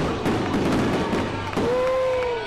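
Fireworks explode in the sky over Bethpage Ballpark in Central Islip at a Long Island Ducks game, in a rapid series of sharp pops and crackling bursts, then a long, steady whistle rings out over the continuing bangs, all loud against a constant background wash.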